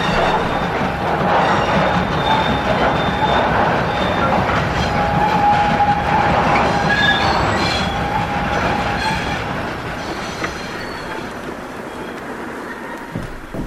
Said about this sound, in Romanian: Asta trebuie să fie trenul.